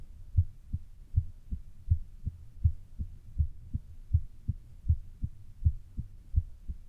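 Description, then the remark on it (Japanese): A muffled human heartbeat thumps steadily in low, soft double beats, repeating at a calm, even pace with nothing else in the background. “私の心臓の音。”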